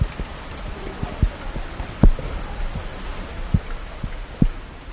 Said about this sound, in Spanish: En Madrid llovió mucho esos días. Esto, por ejemplo, son gotas de lluvia cayendo sobre los botones de mi grabadora.